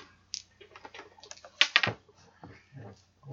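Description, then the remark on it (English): Dice clatter and tumble across a hard surface in a quick flurry of small clicks, peaking in a louder rattle midway before trailing off into a few soft taps. “You roll dice.”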